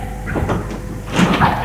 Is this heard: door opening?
yes